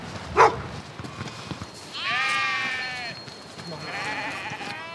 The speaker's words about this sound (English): Lots of sheep. Hundreds and hundreds and hundreds. Sheep everywhere you look.